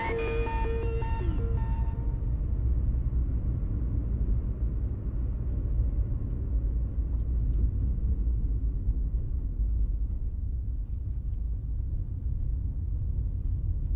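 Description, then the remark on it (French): Steady low engine rumble and road noise from inside a moving car more than three hours into a drive, continuous and fairly loud throughout, with a brief tonal melody fading out in the first couple of seconds. “Ouais, ça fait plus de 3 heures là qu'on est en voiture.”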